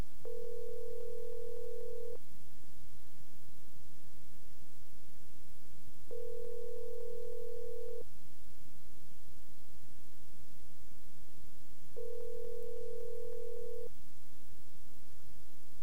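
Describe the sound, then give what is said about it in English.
A telephone ringback tone heard down the line, three steady two-second buzzing rings spaced by about four seconds of quiet line hiss, fairly clear but slightly muffled. “It could be we're just going to get a ring this time.”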